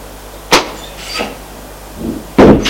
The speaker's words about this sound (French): Henri ouvre la porte avec sa clé.